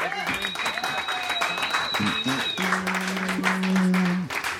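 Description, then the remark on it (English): An audience applauds loudly and steadily for several seconds, welcoming round-two competitors to the stage, a dense wash of clapping with sustained musical tones and some cheering voices layered over it. “Clap your hands.”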